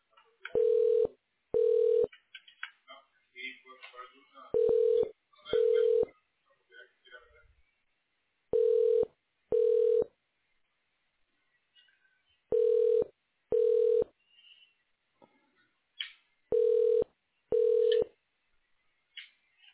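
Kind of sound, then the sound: signal or alarm, telephone line tones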